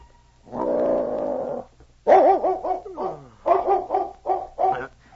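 A huge dog, Czar, in a cabin after a light snowfall, lets out a long, low drawn-out growl, then a string of loud whining yelps and short barks that rise and fall in quick succession.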